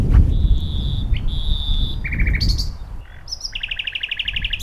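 A nightingale sings on a windy day, mixing long clear whistled notes with quick buzzy trills and rapid repeated phrases, heard over a steady low outdoor rumble.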